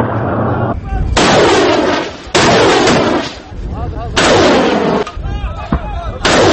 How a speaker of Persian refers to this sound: خبرگزاری رویترز هم به نقل از یکی از سخنگویان مخالفان در لیبی گزارش داده نیروهای معمر قذافی روز یکشنبه با خمپاره و راکت‌های کاتیوشا به سوی مخالفان شلیک کرده و در این حمله ها 6 تن کشته و 47 تن زخمی شدند.